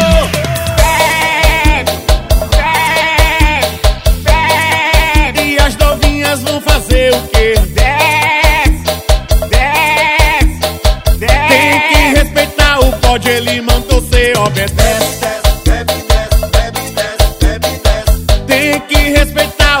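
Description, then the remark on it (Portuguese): Quavering, goat-like bleats recur several times over a loud, steady, upbeat band with a driving drum beat; the bleats sit inside the music and may be voiced or played imitations. “Bode amigo, me dê um conselho. Bebo ou não bebo?”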